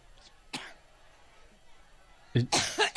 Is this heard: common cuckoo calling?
no